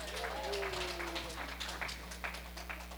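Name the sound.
audience clapping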